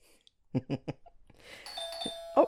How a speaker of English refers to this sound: Doorbell rang. Hello? No one's here, just a package.